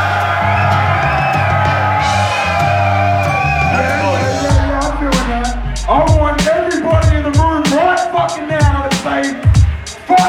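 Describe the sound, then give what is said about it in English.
Loud music with a deep, sustained bass opens, then a crowd of hip-hop fans in a building erupts into whoops, yells and cheering, sharp bursts of shouting piling over one another above the pounding low end. “Who the fuck in this building loves hip-hop? Make some fucking noise!”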